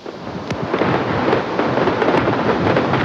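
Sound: fireworks exploding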